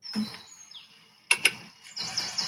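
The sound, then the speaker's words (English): A capercaillie call: a short rasping, croaking stretch, then two sharp pops in quick succession like a cork being pulled, followed by a thin, high whistling trill. “Prolonged croaking, followed by a cork popping, and then hissing and gurgling.”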